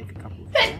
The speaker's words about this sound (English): Bless you. Bless you. Bless you. Thank you.